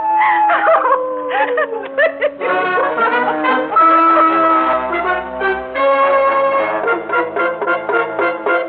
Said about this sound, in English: Now, who knows why the dogs are making like banshees tonight? They're dogs, not people.